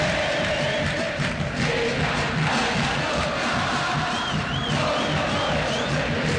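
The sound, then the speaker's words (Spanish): A large crowd of fans of the Argentine football champion chants "Central, movete Central" together at a football match in a dense, steady roar that holds at full loudness throughout, with a faint wavering whistle-like tone rising above it briefly near the end. “Bueno, eso grita la hinchada del campeón del fútbol argentino, raro, ¿no?”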